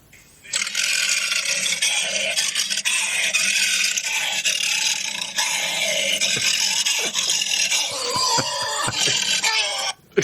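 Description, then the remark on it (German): A trained voice actor roars into a tin trash can, a loud, growling scream with harsh metallic ringing that holds for about nine seconds, wavering in pitch before breaking into choppy bursts and cutting off. “Und ich habe hier von YouTube mal eine kleine Hörprobe mitgebracht, wie sich das anhört, wenn ein ausgebildeter Synchronsprecher in einen Blechmülleimer reinschreit.”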